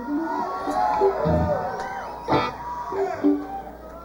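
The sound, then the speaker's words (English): A concert crowd cheering and whooping, a dense wash of many voices with scattered shouts and yells rising above it, sustained and fairly loud throughout. “seemed like a nice crowd.”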